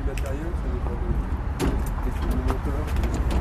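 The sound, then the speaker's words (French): A backstage door at the side of the Zénith arena is opened, with sharp latch clicks and metallic rattling over a steady low rumble, while a farm stage set is being installed. A few faint voices murmur in the background. “On va ouvrir une porte.”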